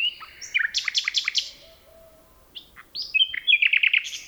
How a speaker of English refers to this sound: Phil Riddett recorded these two nightingales in a forest near Kent, England.